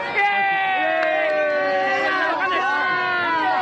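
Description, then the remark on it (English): A loud crowd of fans celebrating Japan's 2-0 win over Tunisia fills the street with a continuous roar of voices, long sustained chant-like tones rising above the general hubbub for the whole stretch. “The crowd sang a Japanese song about the happiness of life, and then the party piled into the streets.”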